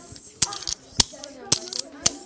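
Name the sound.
pen clicking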